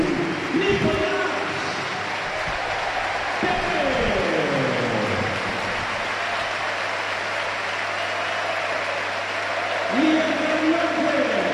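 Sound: stadium crowd ovation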